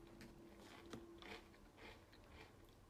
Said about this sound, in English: She's just chewing and staring at me.